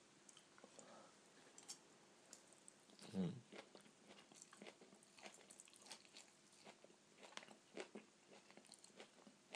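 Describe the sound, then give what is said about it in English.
Quiet wet chewing and biting on noodles from a chicken noodle ready meal, with irregular soft smacks and squishy clicks throughout and one louder, fuller bite near the start. No one speaks. “I've taken the earphones out of the phone on, as requested by Fee, so that to spare you some of the chewing noises.”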